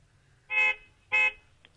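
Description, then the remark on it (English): Two short, blaring car horn honks in quick succession, each lasting about a quarter second, loud against a quiet background hum. “Yeah, honking. He's back in town.”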